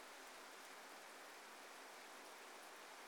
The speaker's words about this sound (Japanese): このまま雨が上がるまで待ちましょう。